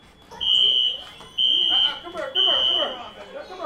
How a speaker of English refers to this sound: Back at Como Community Center, a fire alarm sends kids streaming outside.